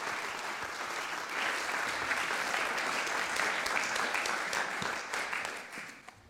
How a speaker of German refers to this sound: Und ihr dürft bitte klatschen, bitte, bitte, bitte, bitte, bitte.